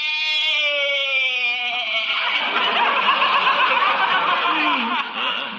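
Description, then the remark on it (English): A goat named Arthur bleats loudly in one long, drawn-out call that starts as a wavering, tonal cry and turns harsh and raspy for several seconds, with no talking. “Yeah, you sure bleated a bibful, Arthur.”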